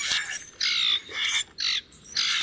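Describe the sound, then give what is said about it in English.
Harsh, raspy squawks from common grackles burst out in a rapid series of about five grating calls, loud, with brief gaps between them and no talking. “Grackles often arrive in noisy flocks, and maybe people see them as too loud, too reckless, too much, but I welcome them.”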